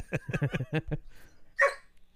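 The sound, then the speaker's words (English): A dog barks in a quick run of five or six rapid, mid-pitched barks, then falls silent briefly before one sharper, louder bark. No one speaks. “All right, we're gonna go ahead and cut the show because the dog's I'm gonna slaughter the dog.”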